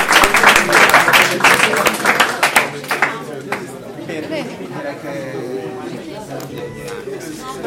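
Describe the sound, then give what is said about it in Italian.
An audience at the FIP scholarship award ceremony bursts into loud, dense applause for the winning students, which gradually thins and fades as murmuring voices and chatter take over toward the end. “La cerimonia di consegna delle borse di studio FIP è terminata tra gli applausi del pubblico agli studenti vincitori.”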